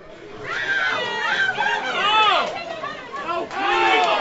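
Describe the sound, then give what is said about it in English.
A dense wash of crowd chatter from Golden State Warriors fans at a San Francisco sports bar: many overlapping voices talking at once at a steady, fairly loud level, with a few raised, higher-pitched voices rising above the murmur. “Golden State Warriors fans at this San Francisco bar have a lot to cheer for.”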